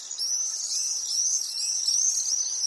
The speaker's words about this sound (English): The high-pitched calls of common swifts zooming overhead. It's a welcome sound across Europe in the summer.